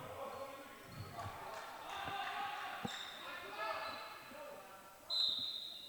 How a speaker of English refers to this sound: The universal slap of the basketball to get everybody moving.